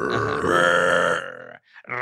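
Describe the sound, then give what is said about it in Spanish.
A person imitates a roar with a loud, rough, growling vocal sound lasting over a second, followed by a brief pause and a shorter guttural burst. “Y pues dice que cuando se alcanzó a subir al carro, se escuchó un rugido acá. Así, ¿no?”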